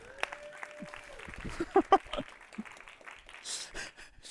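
Scattered, fairly quiet clapping from a group, uneven rather than a steady roar, with a few sharper claps standing out and some faint voices mixed in.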